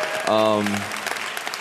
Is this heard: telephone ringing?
no